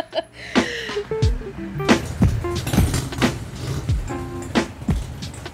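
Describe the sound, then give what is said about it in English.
A car pulls away amid a busy string of clunks, clicks and door-like thumps, with short tonal musical bits mixed in, as a sound effect at the beginning of a song, steady in loudness throughout. “Ooh, I love sound effects at the beginning of songs. Driving their car away.”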